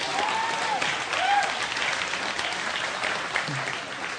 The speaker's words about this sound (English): He's got a nice, give him a round of applause for his noggin.